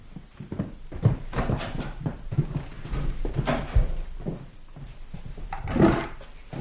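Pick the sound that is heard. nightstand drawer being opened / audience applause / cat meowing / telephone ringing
nightstand drawer being opened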